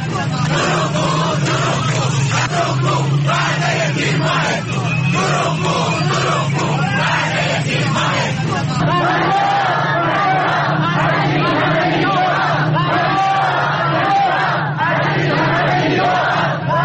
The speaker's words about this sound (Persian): بازنشستگان در تجمعات خود برابر سازمان برنامه و بودجه شعارهایی چون فریاد فریاد از این همه بیداد و دروغگو دروغگو وعده تیر ماهت کو سر دادند.